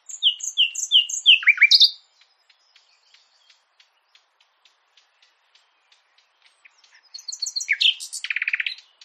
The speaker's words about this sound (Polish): Skoro tyle powiedzieliśmy sobie teraz o tych gatunkach, to czas na to, żeby te ptaki zaprezentowały się właśnie w programie Ptasie Radio. Tak, zaśpiewa dla Państwa słowik rdzawy.